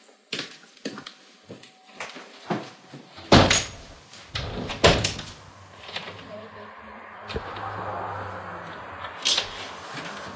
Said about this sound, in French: Un instant. Je ferme la porte.